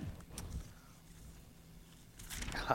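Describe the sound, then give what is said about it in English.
Soft rustling and crinkling of paper being handled, with a couple of brief scrunches early on and a louder burst of crumpling near the end, quiet. “Piece of paper.”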